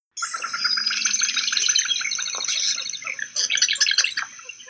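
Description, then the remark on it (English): A dense chorus of marsh birds, such as ducks and herons, calls continuously at the Celery Fields wetland in Sarasota County, with overlapping rapid chirps and trills, fairly loud, with faint watery ambience beneath and no voices. “The Sarasota County Celery Fields are an internationally renowned birding spot and have long attracted ducks, herons, and other marsh birds.”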